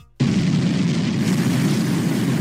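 rocket launch roar

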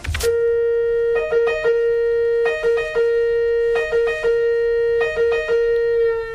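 italian ambulance siren

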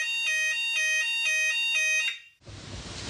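fire alarm going off

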